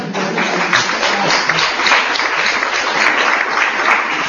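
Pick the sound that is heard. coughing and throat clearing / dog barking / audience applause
audience applause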